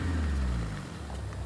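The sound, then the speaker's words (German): A car engine rumbles, a steady low hum with a slight shift in pitch as the car drives past on the sidewalk, with no voices over it. “Das Auto fährt einfach auf dem Gehweg.”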